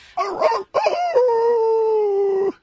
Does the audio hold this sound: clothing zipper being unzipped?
no